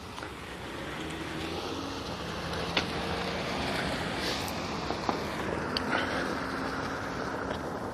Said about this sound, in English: Car coming.